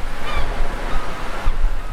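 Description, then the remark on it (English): Steady roar of ocean surf washing onto the shore, a dense, continuous rush with gentle swells in loudness, and a faint bird call briefly audible early on. “The ocean shore.”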